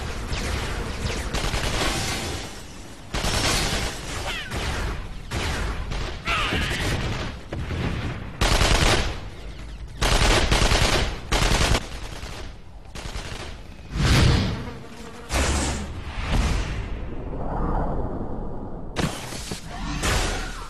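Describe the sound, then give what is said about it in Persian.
Loud machine gun fire as a unit pours all its fire onto the enemy, rattling in long, dense bursts separated by brief pauses, with heavy booming impacts mixed in across the whole stretch. “همه گوش کنن، هرچی آتیش دارین رو سر اون لعنتی ها خالی کنین.”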